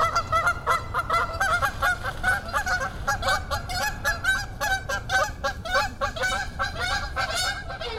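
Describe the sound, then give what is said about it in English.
A flock of geese honks continuously and loudly, many overlapping calls forming a dense, clamorous chorus with no pause. “In just 10 weeks or so, the goslings will be making their first attempts at flying, and the adult geese will be sporting fresh new feathers for their big journey south in the fall.”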